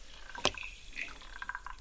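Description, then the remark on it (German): A single sharp splash of water as a rhinoceros and a lion take a morning bath, followed by softer watery sloshing and a few small drips, quiet, with no voices. “Auch das Nashorn und der Löwe geben ein Morgenbad.”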